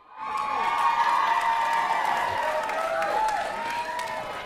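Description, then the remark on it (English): A crowd cheers loudly and steadily, a dense roar of many voices with shouts and whoops rising above it, mixed with scattered clapping for a few seconds. “They're cheering because they love me.”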